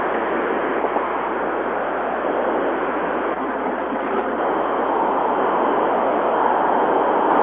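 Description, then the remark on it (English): A steady, unbroken roar of road noise from inside a moving car, carried over an open phone line, loud and constant throughout with no talking. “Back to the jet engine. There's that noise again. Sorry. Okay, is that you, Ken? Okay. Yeah, that's probably me. I'm in a car”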